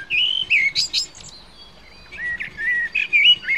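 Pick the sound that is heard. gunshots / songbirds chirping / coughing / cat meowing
songbirds chirping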